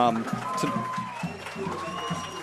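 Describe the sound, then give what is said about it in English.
A big stadium crowd roars and cheers at night as the home team, the Owls, comes out, a steady wash of noise that swells slightly, with a voice talking over the top. “As you can hear, the stadium erupt a little bit. As we said, there is a big crowd out there tonight.”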